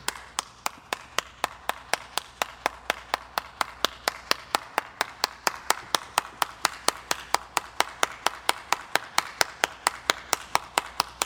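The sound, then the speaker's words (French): Chaya, alone, claps loudly and fast while re-enacting the opera scene from Citizen Kane in a video that became a meme, sharp bright smacks repeating several times per second in a steady, relentless rhythm for the whole stretch, with no voices. “Donc si vous voyez le mème de Chaya en train d'applaudir très très fortement, ça vient de là.”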